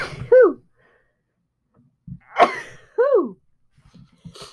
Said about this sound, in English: Ooh, I gotta sneeze.